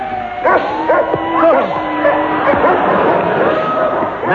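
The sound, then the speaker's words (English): A whole pack of sled dogs barks and yips excitedly, high overlapping yelps and whines running continuously, loud, with no pause throughout. “Must keep the dogs at a gallop.”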